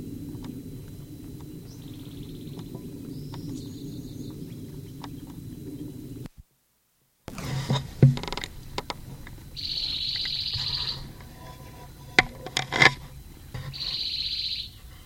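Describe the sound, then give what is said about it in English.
A bird calls from a conspicuous perch in the upper part of a live oak, with high, buzzy phrases, each lasting a second or so, repeated at intervals over a low steady rumble, with a brief silent break midway and some sharp clicks. “Nine 16, bird terminated, but still calling from conspicuous perch and upper part of live oak.”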